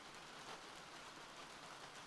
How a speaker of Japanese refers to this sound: 雨、なかなか止みませんね。